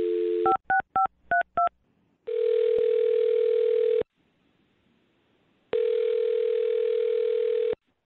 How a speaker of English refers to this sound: All right. Here we go. I'm dialing her phone number right now.